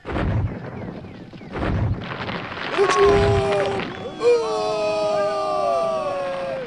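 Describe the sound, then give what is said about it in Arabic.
A chaotic battle by a river bank: several deep, heavy booms from a cannon, the wondrous cannon, in the first few seconds, then a crowd of yelling voices over steady rumbling, loud. “أبي، انظر، هناك معركة تدور.”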